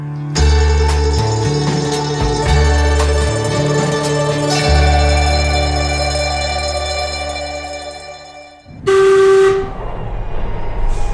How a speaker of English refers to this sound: This is Tottenham Hale. This station has step-free access. This is a Victoria Line train to Brixton. National Rail services from Tottenham Hale are suspended. The next station is Seven Sisters. Doors will open on the right-hand side.